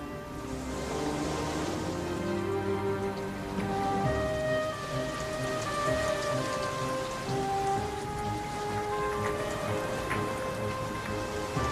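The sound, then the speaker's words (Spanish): Heavy rain pours down steadily in a dense, continuous hiss, with soft sustained musical tones drifting underneath and no voices. “La lluvia cubrió toda la tierra.”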